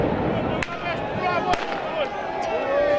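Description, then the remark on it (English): Two sharp firework bangs crack out about a second apart over the steady roar of a large crowd shouting and chanting at a street protest in Romania against a government decree decriminalizing some corruption offenses, with a couple of fainter pops. “The protests were generally peaceful, but hundreds threw fireworks and stones at riot police who responded with tear gas.”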